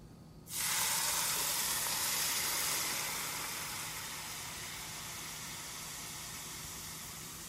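A sudden loud burst of hissing sizzle as hot oil, heated to about 340, hits aromatics and a spice mix in a bowl, starting sharply then settling into a steady, slightly softer crackling fizz that continues to the end. No talking.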